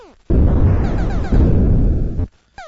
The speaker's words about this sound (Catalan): Per exemple, en el joc Asteroids, el pare dels matamarcianitos, ja sé que la paraula no és correcta, però és com li deien sempre, amb trets, explosions i un rítmic tic-tic que simulava el moviment dels enemics.